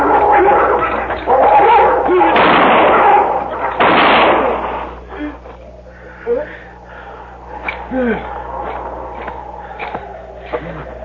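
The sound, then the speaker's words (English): Two loud, sharp six-gun revolver shots fired at a wolf attacking a man, about two seconds apart, each with a ringing decay. They are followed by quieter scuffling, soft clicks and faint whimpering cries. “I'm going over there with a six gun.”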